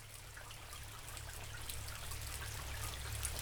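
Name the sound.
rain falling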